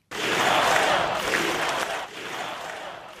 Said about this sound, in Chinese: 在现场支持民众的一片欢呼声中，多名拜登的支持选民接受本台法语记者的现场采访